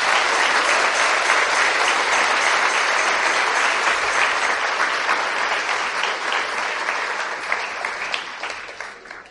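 A crowd at a Catholic preaching event applauds the Catholic Church, clapping steadily and loudly for several seconds, a dense wash of many hands that holds strong before gradually thinning toward the end.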